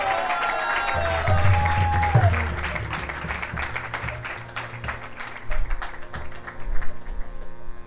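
An audience breaks into a round of applause for a violinist, dense overlapping clapping that holds steady for several seconds with a couple of louder swells, while a lingering musical tone fades out at the start.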